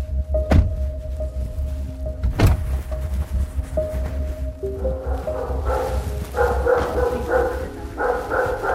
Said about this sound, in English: Boy, that's a big dog.